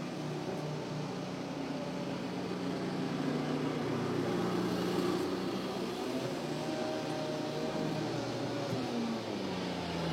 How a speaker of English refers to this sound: Oh man, there's a lot of cars. A lot of cars not moving. Here in the alley.